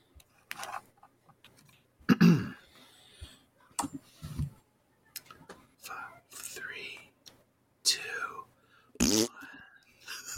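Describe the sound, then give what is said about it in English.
A short, buzzy fart noise, likely made with the mouth, sputters among breathy whispers and scattered clicks, with a couple more rough bursts later in the quiet stretch. “I didn't see who made the fart sound.”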